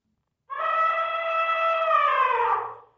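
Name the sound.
elephants trumpeting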